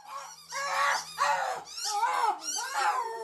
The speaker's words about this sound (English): Have you ever listened to the sounds a dog makes when they play with a toy, or how they might make different noises depending on which toy they're playing with? Like, here's a dog playing with a squeaky toy.